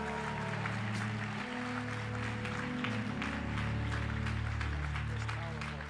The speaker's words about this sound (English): Come on, give another round of applause for Pastor Chris. What a powerful word.